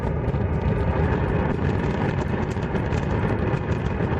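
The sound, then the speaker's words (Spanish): A continuous, deep roar of the Cumbre Vieja volcano, rumbling steadily with heavy low-end energy and a broad hiss above, unbroken and loud for the whole stretch, with no voices. “Quitando los 13 últimos días, que es el tiempo que el volcán de Cumbre Vieja lleva en calma, han estado en vilo escuchando un rugido como este.”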